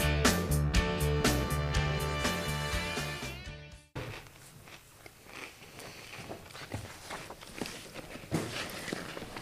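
A short burst of music ends abruptly, then a potato chip bag crackles and rustles in irregular, sharp bursts, loud and bright, with no talking over it.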